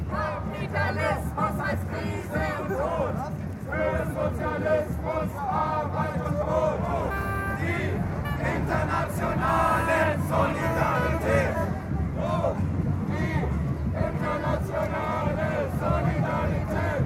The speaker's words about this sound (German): Dann ging es auch schon los und der Zug setzte sich in Bewegung Richtung Haltplatz. Lautstark unterstützt von mehr oder weniger linken Schlachtrufen.